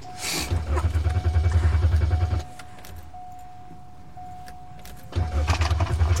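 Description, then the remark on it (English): The engine of a car snowed under with snow and ice cranks in a loud, rumbling burst for about two seconds, falls quiet, then cranks again near the end. A steady electronic chime hums throughout, with faint key jingles. “Well, at least we'll get the engine going and it'll help warm us up and loosen the snow.”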